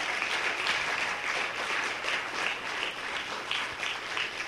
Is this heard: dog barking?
no